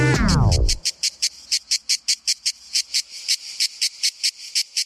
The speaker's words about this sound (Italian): Chissà cos'hanno da dirsi le cicale per non stare zitte un secondo. Che poi più fa caldo, più ciarlano. Di cosa? D'amore. A fare tutto quel rumore sono i maschi e non usano la bocca.